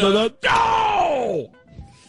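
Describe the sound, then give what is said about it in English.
A single loud, theatrical sneeze, live on air: a short voiced intake, a brief pause, then a forceful burst that trails off in a long, falling, groan-like tone. “Live sneeze on the air as candidate number one,”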